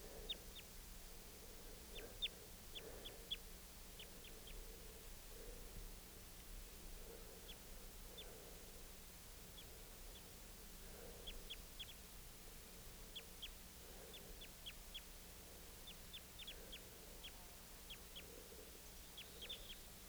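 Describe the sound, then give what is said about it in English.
A male and a female bird call back and forth: bursts of short, high chirps answered by lower, rhythmic calls repeating every couple of seconds, over a steady background hiss. “Recording that male again and the female responding.”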